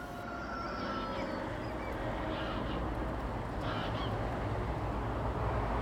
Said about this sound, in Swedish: I ljudkonstverket så finns det också olika ljud från till exempel tuppar och måsar och havet som blandas med den gråa höstdagens verkliga ljud när sträck med fåglar drar förbi och flyger söderut från Trelleborg.